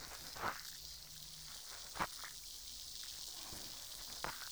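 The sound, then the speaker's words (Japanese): A steady, quiet fizzing hiss with scattered crackling pops, a few louder snaps standing out against the soft bubbling texture, made gently with the tip of a cotton swab. No voices. “シュワシュワ、パチパチって、心地いい音がしてますね。”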